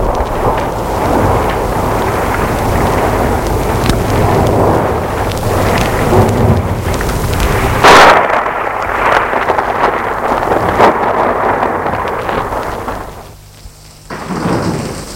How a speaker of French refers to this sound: Le jour où ils étaient pris par l'orage dans la cabane du bûcheron.